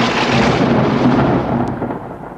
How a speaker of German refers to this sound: Donnern macht auch keinen Spaß mehr.